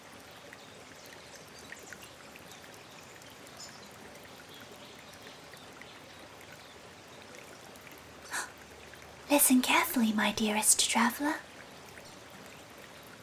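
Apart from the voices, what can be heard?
mountain river water flowing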